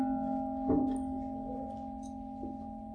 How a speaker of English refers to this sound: So with the mindfulness bell, we stop.